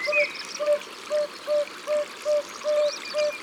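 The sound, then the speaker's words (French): Small yellow-bellied toads, barely 5 cm long, give soft, mellow 'ou' calls from pools at the edge of a river running between rocks: about eight evenly spaced hoots in steady rhythm over the constant trickle of running water. “Ce sont des petits crapauds qui lancent ces ou, ou, ou.”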